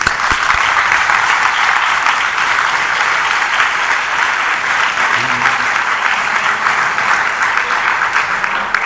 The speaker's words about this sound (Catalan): Jo des d'aquí sí que demanaria un aplaudiment per les persones que, malgrat que a vegades no hi són aquí, treballen per nosaltres també.